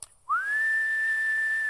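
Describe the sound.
A single sharp human whistle, a parent's first whistle summoning children home, swoops quickly upward and then holds a loud, steady high pitch for over a second, heard alone with no talking.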